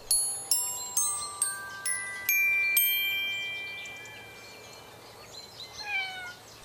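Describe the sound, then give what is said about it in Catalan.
Bright chime-like notes ring out one after another and fade, then a small, thin kitten meow sounds once near the end, fairly soft. “He sentit el gatet.”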